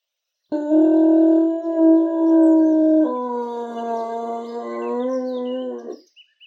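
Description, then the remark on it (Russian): A long, eerie, bloodcurdling howl rises out of silence from somewhere under Pokrat's hooves, sustained for several seconds with a shift in pitch midway, then trailing off near the end. Loud, with no talking. “И в этот критический момент, когда обе стороны напряженно ждали, что же все-таки стукнет в лихую башку благородного Дона, откуда-то из-под копытки Пократа вдруг раздался жуткий, леденящий душу вой.”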